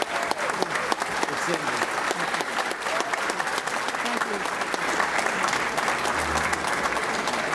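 An audience claps steadily throughout, a dense, even wash of many hands with no pauses, holding the same moderate loudness from start to finish, at the Economic Club of Florida luncheon meeting of February 20th, 2019, at Florida State University.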